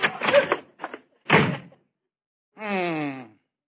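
door slamming shut

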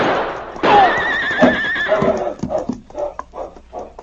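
horse neighing

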